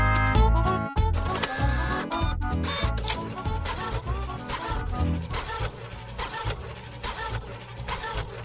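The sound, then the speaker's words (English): A printer pulls paper through, its motors whirring with shifting tonal hums while sharp mechanical clicks repeat at a steady rhythm, moderately loud and without any voices. “Paper coming out of the printer.”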